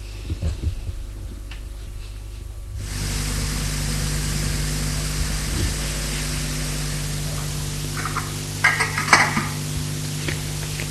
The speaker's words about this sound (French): Elle se lève pour débarrasser la table. Instinctivement, il l'aide et va essuyer la vaisselle.